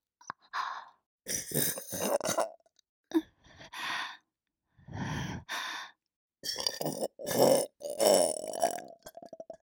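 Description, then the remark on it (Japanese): A string of loud burps after drinking Charmen comes one after another, some long and guttural, with short breathy sounds in between and no talking. “あなたのチャーメン飲んで出たゲップは下品で汚くて、でも結構好きな人多いみたいなんですよね。”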